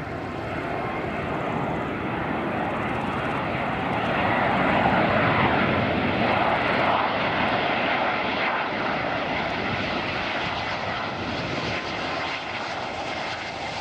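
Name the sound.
airplane engine drone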